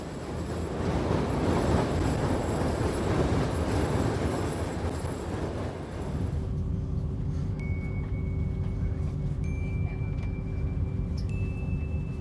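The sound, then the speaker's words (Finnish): A fairly empty passenger train on a weekday morning rumbles steadily along the rails, a dense, loud roar for several seconds that settles into a lower hum with faint high-pitched wheel squeals and soft clicking. “Juna oli arkiaamuna melko tyhjä.”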